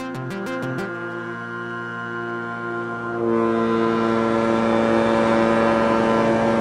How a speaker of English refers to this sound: As the Inner Island ferry chugs away from the dock in Ketchikan, bound for Prince of Wales, salmon leap out of the water in its wake.